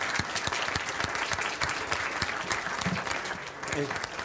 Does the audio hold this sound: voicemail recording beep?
no